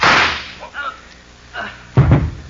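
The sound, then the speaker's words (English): A single loud pistol shot cracks at the very start and rings off quickly, followed by scattered, muffled voices speaking briefly afterward. “don't wave that gun at us, Noonan. It only holds one shot.”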